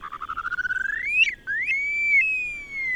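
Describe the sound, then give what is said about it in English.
Upland sandpiper calls from adults guarding their young on the open plains of the northern Great Plains: a rapid bubbling trill of pulses climbing in pitch, flowing into long, high, drawn-out whistles that rise and then hold steady. Clear and loud, with no voices. “The open plains are ideal breeding areas for grouse and shorebirds whose active offspring must forage for themselves while their parents guard them, like these upland sandpipers.”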